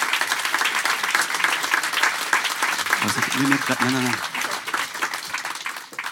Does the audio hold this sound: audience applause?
yes